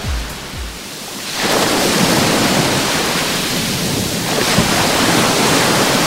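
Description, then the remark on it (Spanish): Broad, steady roar of surf washing onto the beach at Salobreña on the Costa Tropical, swelling after a quieter start into a continuous rush of breaking waves with some low rumbling, with no voices. “Hoy la playa está así, con este sonido, así suena hoy la playa de Salobreña.”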